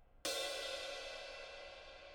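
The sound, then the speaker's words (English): A single shoulder stroke on a light crash ride cymbal: one sudden bright, shimmering hit that rings on as a broad metallic wash, fading slowly. No voices accompany it. “And shoulder sound.”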